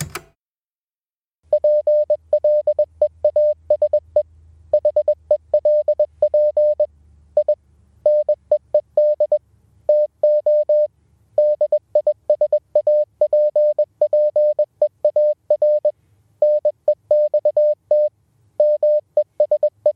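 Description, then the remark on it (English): A coded voicemail made of touch-tone telephone beeps: a long run of short steady tones in rapid bursts separated by brief pauses, over a faint low hum. No one speaks. “Anyway, here's that coded voicemail.”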